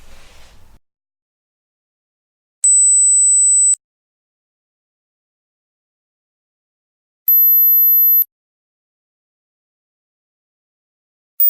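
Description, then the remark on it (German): A high-pitched smartphone ringtone made for children, which adults usually cannot hear, of piercing pure beeps, each about a second long and separated by silence, climbing higher in pitch each time; the last tone is barely audible. “Ich spiele nämlich jetzt einen Klingelton ab für ein Smartphone.”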